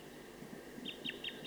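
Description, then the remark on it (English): A wild bird in a tree about 50 meters from a bird-netting site calls in a quick series of short, high chirps over a steady low background hum, the notes coming in rapid succession toward the end. “I don't see it right now, but it's in a tree about 50 meters from the net site. Calling rapidly.”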